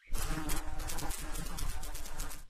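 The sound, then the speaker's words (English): A steady, dense insect buzz hums without pause, fairly loud, like several flies or bees whirring around a person's head. No one speaks. “I mean, you humans like to have insects buzzing around your heads, right?”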